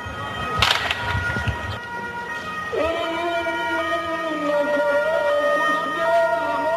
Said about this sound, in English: Gunfire, an ambulance rushes to the scene as an American tank burns on the main road to Fallujah.